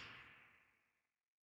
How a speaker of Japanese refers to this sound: そんな悪い子が鞭を受けるのは当然よね。